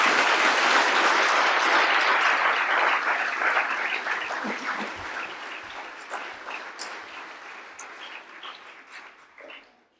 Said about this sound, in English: How about a nice round of applause for all of us?